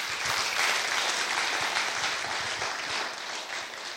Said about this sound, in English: Let's give him a great big round of applause, shall we?